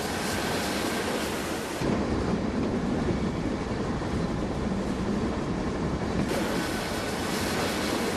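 A train rumbles steadily, a dense, continuous roar of wheels and carriages with a low, heavy undertone and no voices, the noise shifting in texture partway through, as Andrey's train, with a freight car, stops at a small halt.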